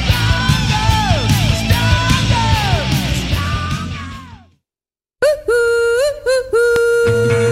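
A metal band's cover of a song plays loud and dense with sustained, bending tones, fading into a brief silence before another loud burst of music with held notes resumes.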